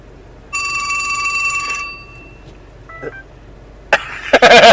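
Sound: mobile phone ringing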